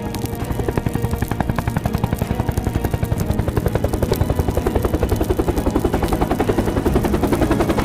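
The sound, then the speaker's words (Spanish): A helicopter crosses the sky over the heads of people fighting a fire in a field, its rotor blades thumping in a steady rapid chop with a low engine roar that stays loud throughout, growing slightly stronger toward the end. No voices are heard. “Sobre sus cabezas, un helicóptero surca el cielo.”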